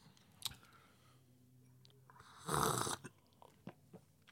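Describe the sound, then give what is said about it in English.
One loud, airy slurp of dark coffee being tasted, lasting about half a second, with a few faint clicks and small mouth noises around it. “I'm gonna do the annoying coffee git slurping.”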